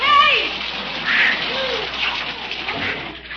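Water sprays steadily from a running hose, a close, continuous hissing splatter that holds fairly even for a few seconds with slight surges.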